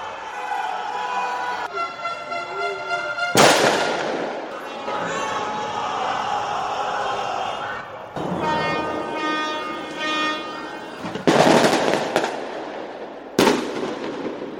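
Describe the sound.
Emotional shouts and cheering come from windows and balconies across Rio de Janeiro at nightfall on May 17, 2020, during pandemic isolation. Flamengo fans celebrate a rebroadcast Libertadores goal by Gabriel Barbosa against River Plate. The voices carry on steadily, broken by several loud, sharp bursts that crackle like fireworks or firecrackers.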